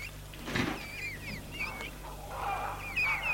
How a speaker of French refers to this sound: Martin ouvre la porte.